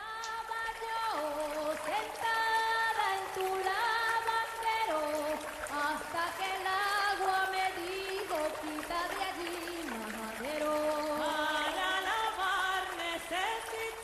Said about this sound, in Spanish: Estamos oyendo cantar a las lavanderas. ¡Qué bonito! ¡Ay, qué bonito!